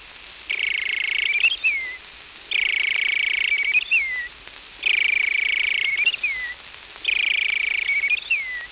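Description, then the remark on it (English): Someone whistles an imitation of a robin's evening song: four evenly spaced phrases, each a steady, bright held note ending in a quick falling flourish, clear over a faint hiss. “In the evening he whistles like this.”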